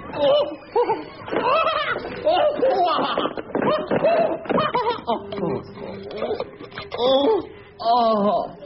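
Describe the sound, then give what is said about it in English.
A group of young boys from an infant school class chatter excitedly over one another while scooping something up to put in a jar, with bursts of giggling and laughter throughout, lively. “I will now be scooped up by the boys of Class 2C St. Joseph's Infant School.”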